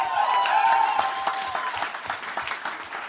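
A crowd applauds steadily, many hands clapping in a dense, bright patter that holds for a few seconds before thinning slightly toward the end.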